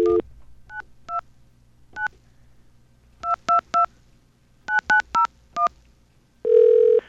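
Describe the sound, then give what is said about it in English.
A telephone line with a steady low dial tone, then about eleven short dual-tone keypad beeps dialing a 929 area code test number in quick, uneven bursts, followed by a longer ringback-like tone at the end. No one speaks. “We're going to get a dial tone here and call this test number to prove that the 929 area code exists.”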